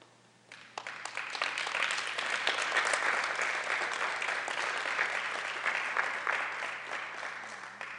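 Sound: audience clapping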